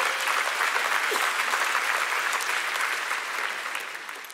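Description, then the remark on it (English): An audience applauds in a dense, steady wash of clapping that stays loud throughout before tapering slightly at the end, with no voices rising above it. “Yeah, I know you want to clap. Go ahead.”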